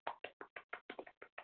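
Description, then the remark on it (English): Hands clap about ten times in a quick, steady rhythm, each clap a sharp, bright slap. No one talks over it. “And you're clapping.”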